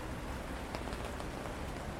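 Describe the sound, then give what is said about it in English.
Steady rain patters on a hard surface on a street in Paris, a dense, even hiss with a few sharper drops ticking through it. Soft and continuous, with no voices. “We laugh and talk about her day, she hears the rain, and even though I forgot my umbrella, I tell her, yes, I have one.”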